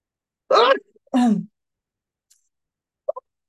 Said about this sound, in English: Excuse me, I'm going to sneeze.